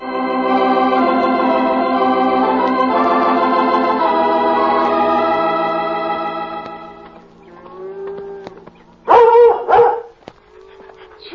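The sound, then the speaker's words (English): Sustained orchestral music fades out, then a dog gives a couple of loud barks near the end, followed by quieter yelping sounds. “Look, there's a big strange dog in with the cattle.”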